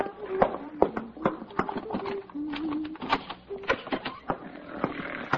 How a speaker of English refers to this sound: …, stop that snoring. Oh, it's hopeless.